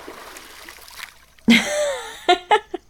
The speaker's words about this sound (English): You should have seen your face. I got you good, admit it. Okay, stop splashing me.